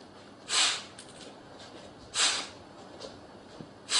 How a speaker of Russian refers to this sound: А можете теперь капалабхати показать? Капалабхати сейчас покажу. Вот так.